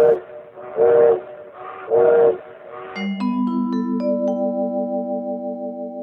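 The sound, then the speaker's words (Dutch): A steam train whistle gives three short, breathy blasts in quick succession, then a steady layered tone swells in as notes stack up one after another and hold. No one speaks. “Wel als we de trein nemen, roept mevrouw Calloway.”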